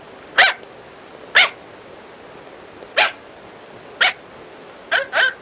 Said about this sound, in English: Oi! You stop chasing the dog!